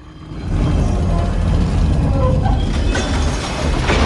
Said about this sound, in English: Underneath it, he finds a metal dial set in the floor. He turns the dial and a secret door opens in the wall behind him.